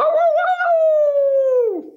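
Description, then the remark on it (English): A single sustained wolf howl imitated by a human voice, holding a steady pitch for nearly two seconds before sliding downward and trailing off, loud. “That was definitely a wolf, not a hound dog.”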